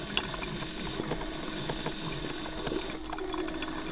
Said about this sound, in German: Blubbern, wird hörbar.